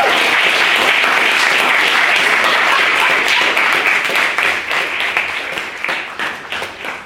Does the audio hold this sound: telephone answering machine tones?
no